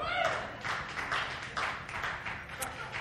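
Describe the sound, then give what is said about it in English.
A small group of people from a church fantasy football league cheering and clapping together, a dense wash of overlapping voices and scattered claps that carries on steadily at a moderate level. “The people cheering are in my fantasy football league with the church”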